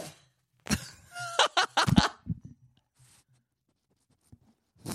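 A dog named Kirby, a small guard dog, lets out a breathy exhale: a cluster of short, airy huffs over about a second and a half, with a faint whiny tone mixed in, followed by near silence.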